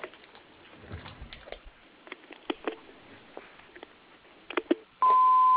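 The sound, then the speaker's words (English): Faint clicks and shuffling noises, then a single loud, steady electronic beep tone at the end of the Westchester Construction Company voicemail greeting, signalling that recording has begun. “At the tone, please leave a short message with your phone number, and I will be in touch with you as soon as possible.”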